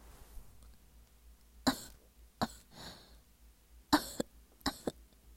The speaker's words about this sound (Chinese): 我故意咳嗽一下，将两位年纪完全可以做我爸爸的大叔的身子从我这白嫩嫩的娇躯上推了回去。